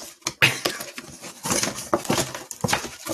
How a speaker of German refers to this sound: Ich wollte noch ein bisschen rascheln hier. Warte mal, aber ich habe doch jetzt deinen Cajon gar nicht gesehen. Noch nicht. Ja, deswegen raschelt er ja jetzt hier. Wir machen doch jetzt hier Live-Unboxing im Podcast.